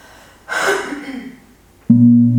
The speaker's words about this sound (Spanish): Pues hacemos una gran inhalación. Exhalamos todo el aire de los pulmones.